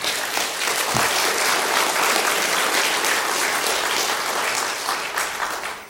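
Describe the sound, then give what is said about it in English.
A crowd gives one more round of applause for the Lord, clapping steadily and loudly for several seconds, a dense, sustained wash of applause from many hands with no one speaking. “And so let's give the Lord one more round of applause.”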